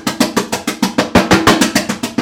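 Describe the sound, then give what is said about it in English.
A quick, steady series of about a dozen sharp, bright taps as the shell of a pre-cooked, lye-soaked duck egg is knocked and cracked, each click crisp and fairly loud, with no voices. “Knocking the egg. Breaking the eggshell.”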